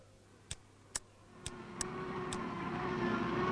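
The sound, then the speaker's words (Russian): A few sharp mechanical clicks give way to a car engine whose roar swells steadily and fills the background, growing louder as the car speeds up, driving at top speed into a forest. No one speaks. “Машина на предельной скорости нырнула в лес.”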